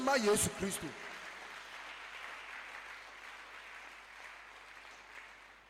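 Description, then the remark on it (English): An audience claps together in a dense, steady wash of applause that slowly fades over several seconds, after a brief burst of voice at the very start. “Clap for Jesus.”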